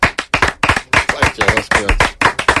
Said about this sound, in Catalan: Va, ja està. Quin aplaudiment més trist, la veritat.